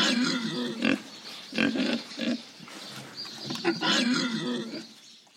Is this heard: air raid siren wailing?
no